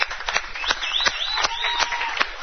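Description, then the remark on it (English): A crowd at an event hosted by Carson Sports Grill claps steadily, giving a round of applause to the grill's staff, a dense patter of sharp hand claps at fairly even loudness throughout, with a thin high whistle or squeal rising briefly above the applause. “Also, please join me in giving the great folks of Carson Sports Grill a great round of applause.”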